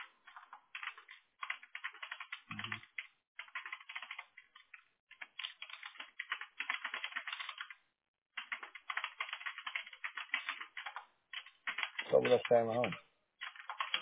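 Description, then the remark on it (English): Steady bursts of quick typing on a computer keyboard, clicks clustered in rapid runs with short pauses between, clear. Near the end a brief low voice or thump briefly rises beneath the keys. “I'm just typing this in, 411 local maid.”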